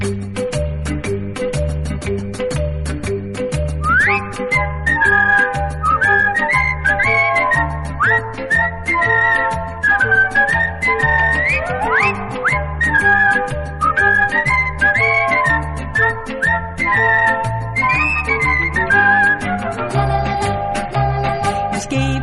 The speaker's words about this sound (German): Damals wurde nicht nur gesungen, sondern auch gepfiffen.